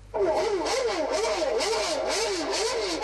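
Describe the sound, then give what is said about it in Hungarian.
Formula 1 race car engines, played from a tape player during lunch among a German group in Mogyoród, Hungary, whine steadily and loudly, their pitch rising and falling in quick repeated sweeps as if revving or passing by, with no voices present. “A Magnóból is a Form 1-es autók hangja szólt ebéd közben ennél a német társaságnál.”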